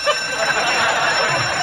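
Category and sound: signal or alarm, alarm going off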